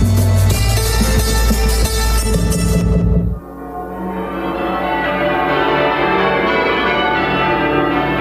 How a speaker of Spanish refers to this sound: En muchos lugares de México, el repique de las campanas es clave en la vida social. Marca la hora de reunirse y tener un acto comunal, ya sea para asistir a misa, expresar duelo o anunciar el inicio de las fiestas locales.